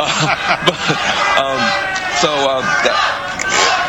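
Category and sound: crowd, crowd booing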